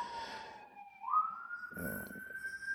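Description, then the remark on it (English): A siren wails steadily as it goes by outside a home, its pitch sliding upward, with traffic rumble underneath; no one speaks. “We got sirens going by.”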